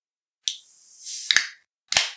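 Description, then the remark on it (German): A can of Austrian premium Märzen beer cracks open with a sharp click and a long hissing fizz, followed by a couple more metallic clicks and a final snap with a short burst of fizz. “Genau, jetzt reiß auf die Kanne.”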